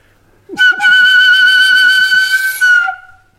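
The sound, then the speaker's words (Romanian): A loud, sustained reedy whistle call held steadily for over two seconds with a rich, buzzy tone, sounding clear, blown on a handmade hunting whistle for deer to call a roe deer. “Așa chem căprioara.”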